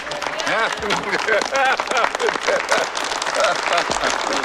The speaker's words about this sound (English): The small group applauding includes Anders and Stupak and Waldo and Stacy.